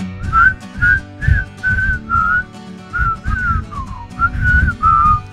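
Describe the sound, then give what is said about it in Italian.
Radio hosts whistle a tune along to a song instead of singing, in a string of clear, sustained notes, carried over a steady musical backing with thumping low bass beats. “Ragazzi miei, avete sentito che bravi? Sappiamo fischiare.”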